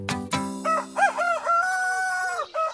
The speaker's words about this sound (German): Kikeriki, ruft Hahn Pavarotti um 6 Uhr morgens aus Leibeskräften. Alle aufstehen, der Tag beginnt, los, raus aus den Federn, Kikeriki.